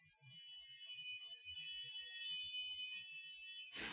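A shrill, steady electronic fire engine siren tone from a fire engine passing outside holds for several seconds over faint low knocks, then cuts off into a short burst of noisy rustle. No one speaks.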